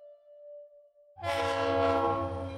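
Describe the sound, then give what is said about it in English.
A faint, steady tone gives way to a loud, blaring train horn over a heavy rumble as a freight train passes during a tribal blessing ceremony, interrupting a speech by an Army Corps Brigadier General. The horn holds continuously to the end. “The clamor of a freight train interrupted the speech of an Army Corps Brigadier General.”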